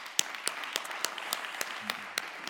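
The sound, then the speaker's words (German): Applause from an audience thanking a guest: a steady patter of many hands with a few sharper claps landing in an even rhythm, at moderate volume, with no one speaking over it. “Wir geben jetzt mal Applaus.”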